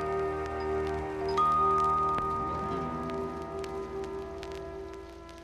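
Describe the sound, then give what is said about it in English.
Steady rain patters and drips throughout, with scattered sharper drops, while sustained low musical tones hum underneath. No one speaks. “And do you like the rain?”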